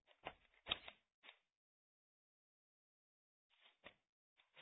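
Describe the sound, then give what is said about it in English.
Papers being shuffled and handled, in quick crinkly bursts of rustling, then a pause of a couple of seconds before more soft, scattered rustles. No one speaks. “I'll talk over your paper shuffle.”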